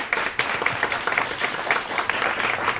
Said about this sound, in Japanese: ちょっと皆さんぜひ、お二人にちょっと拍手かなんかしてください。